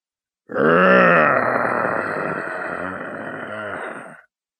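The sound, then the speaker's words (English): A human voice imitates a steady, low growl coming from a catman's tightly clenched teeth, a rough, sustained rumble lasting several seconds, with a few brief pulsing bumps near the end before it cuts off. “Alibi realizes a steady low growl is coming from the catman's tightly clenched teeth.”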